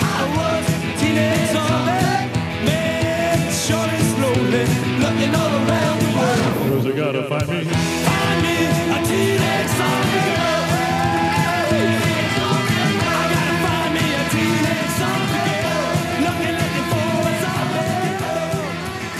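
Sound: rock song playing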